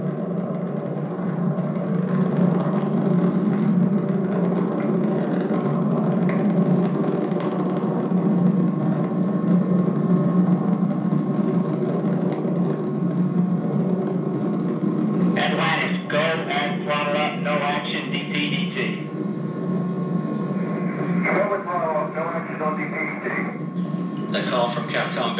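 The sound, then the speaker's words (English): The three liquid-fuel main engines of Space Shuttle Atlantis roar in a steady, dense, loud rumble during ascent from Kennedy Space Center, revving back up toward the throttle-up call, with crackly radio voices speaking over the noise in short stretches toward the end. “Engines now revving up, standing by for the throttle up call.”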